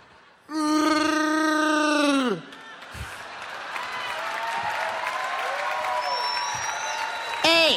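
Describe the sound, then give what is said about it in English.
The Bumble lets out a loud, drawn-out, Chewbacca-like roar with a strong harmonic, moaning pitch that falls at the end, followed by a long, quieter stretch of warbling groans and wails. “Hey, how come the bumble sounds like Chewbacca?”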